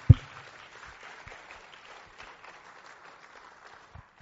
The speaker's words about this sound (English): Once again, can we please just appreciate? I really enjoyed that. I'm sure you did too. Can we just give him a round of applause of appreciation?